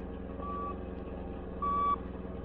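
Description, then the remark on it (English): Two steady electronic beeps at a fixed mid-high pitch, spaced about a second apart, from a radio beam sent by a tracking attachment stuck on a woman's car, heard over a continuous low engine rumble as the Black Beauty follows her car. “With that radio beam it sends off, we won't lose her.”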